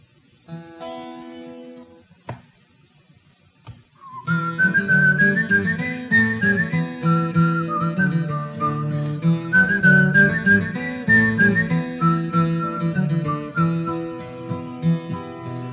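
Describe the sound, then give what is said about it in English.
A person whistles a lilting melody, imitating a tin whistle, over a full, steady instrumental backing that comes in after a few quiet sustained notes, opening a theme song about sailing ships and Cape Horn; the whistled tune is clear and fairly loud. “Don't mind my whistling. I'm trying to sound like a tin whistle here.”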